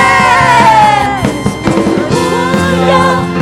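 A crowd of voices shouts 'Amen' together in unison, loud, with a sustained, ringing backing underneath as the collective cry rises and then trails off over a few seconds.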